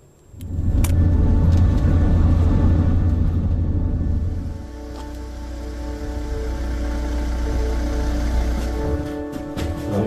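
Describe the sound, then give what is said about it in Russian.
A Donetsk Oblast police car drives along with a steady engine drone and road rumble, louder for the first few seconds before settling to a slightly quieter, continuous hum. No one speaks. “Именно их машины часто единственный способ вырваться из таких мест.”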